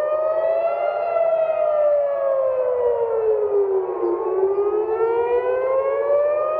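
A civil defense air raid warning siren wails steadily in Jerusalem after a series of missile launches from Iran, its pitch slowly falling then rising again in a long sweeping cycle, loud and continuous with a low rumble of background noise beneath.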